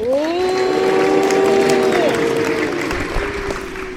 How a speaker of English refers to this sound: Let's give him a big cheer.